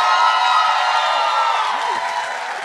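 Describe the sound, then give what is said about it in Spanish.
A crowd applauds and cheers to welcome the members being introduced, a steady, dense roar of clapping with scattered whoops rising above it, loud throughout and easing slightly toward the end. “Voy a pedir un fuerte aplauso para los integrantes de este podcast que voy a presentar.”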